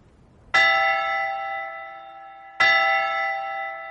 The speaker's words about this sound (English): Shall I ring the bell for Vespers? It's past 6 o'clock. Oh, no. I'll ring it.